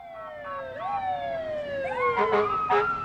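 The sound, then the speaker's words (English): Several fire truck sirens wail at once, overlapping rising and falling tones that sweep between pitches, with short bursts of horn-like blasts near the end over a steady rumble of traffic, as fire trucks and cars parade the Devil's Thumb Shooters youth shooting team through Petersburg in a noise parade welcoming them home. “Then, fire trucks and cars paraded the team through town.”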